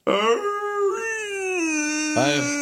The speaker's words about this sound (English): We're all yawning as we're sitting here in our chairs like, oh my god.